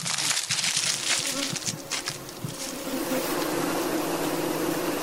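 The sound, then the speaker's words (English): A dense, steady swarm of bees buzzes continuously in an apiary among beehives in Central Gonja District, Northern Region, Ghana, on a bright, sunny day, a loud droning hum with overlapping wingbeats, accompanied by scattered crackling and rustling of dry leaves underfoot at the start. “It's a bright, sunny day, and bees are buzzing in this apiary.”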